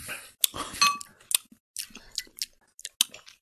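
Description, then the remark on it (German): Glass bottles of cider aperitif clink together in a bright toast, with a sharp ring near the start followed by several lighter taps and clatters, no voices over it. “dann Prost, ja? Ah, aus der Flasche gleich.”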